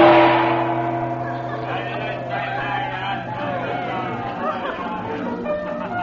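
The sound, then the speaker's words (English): A steady murmur of many indistinct voices fills the busy Cafe of the Desert Moon in the native quarter of Cairo at night, a favorite meeting place of tourists, with a low sustained tone sounding underneath at the start before the crowd chatter carries on evenly. “Now, soon after their arrival in Cairo, Chandler has brought the Regents to the Cafe of the Desert Moon in the native quarter, a favorite meeting place of tourists.”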